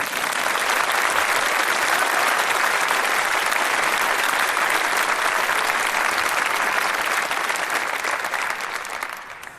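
Sustained audience applause for a poet in a final, a dense wash of many hands clapping at steady loudness for nearly ten seconds before tapering off slightly at the end, with no talking over it.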